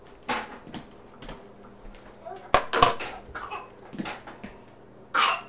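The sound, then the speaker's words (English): A young child coughs several times in short, harsh bursts, with brief pauses between fits and a faint background hum. “That's a bad cough.”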